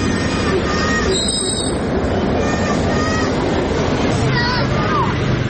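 A dense, continuous wash of noisy crowd babble with scattered high-pitched shrieks and calls as children play loudly outdoors in a park, steady throughout; a boy of about 4-5 kicks a small rubber ball at a goal and a girl plays with a plastic flower.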